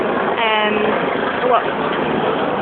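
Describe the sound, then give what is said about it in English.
A helicopter flying overhead makes a steady, loud engine drone that fills the whole clip without fading, with a brief murmur of a voice early on. “Hopefully the helicopter has gone.”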